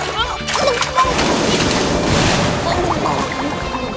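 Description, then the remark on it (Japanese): Ocean waves wash and churn at the beach, a steady loud surf with a sharp splash near the start, then continuous frothy rushing water. “これだけ綺麗な海だもの、しょうがないじゃない。”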